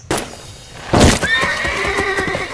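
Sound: horse neighing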